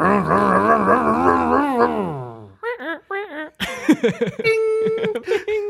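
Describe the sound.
A voice imitates a roaring car engine with a loud, buzzy, sustained rumble that wobbles in pitch before sliding down and cutting off, followed by short voiced bursts and people talking.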